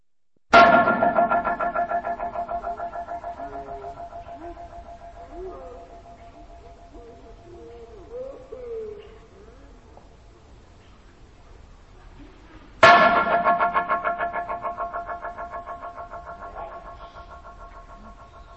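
Slowed-down echoes from the parabolic bridge in Stanley Park, which sends a sound echoing up to 50 times: two loud, sudden strikes about twelve seconds apart, each followed by a long, slowly fading tail of smeared, pitched repeats that warble and drone.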